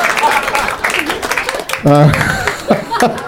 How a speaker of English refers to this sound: I don't know why that got a round of applause. Because I said it with such confidence. So skillfully done.